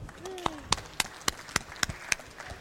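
Applause introducing a talk about Scuttlebutt, only a handful of sharp, evenly spaced claps, roughly eight in quick steady rhythm, fairly faint, with a brief murmur of voices underneath.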